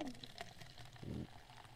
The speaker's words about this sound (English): The ASMR for pouring Coke?